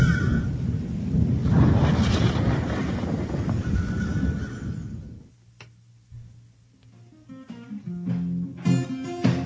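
A deep, loud rumble of thunder rolls steadily for about five seconds, then cuts off as music with a plucked, ticking rhythm begins.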